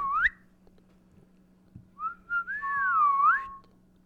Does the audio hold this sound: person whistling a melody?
yes